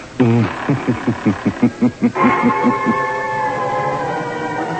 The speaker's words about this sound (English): Where are we going? Through the creaking door? Of course.